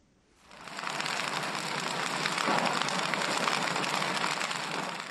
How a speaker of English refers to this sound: A campfire burns in a remote village on Cameroon's northwestern border with Nigeria, where seven men and five boys roast cocoyam for supper.